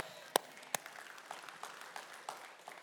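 An audience applauds: two sharp claps ring out first, then a softer, scattered patter of many hands clapping continues throughout, moderately quiet.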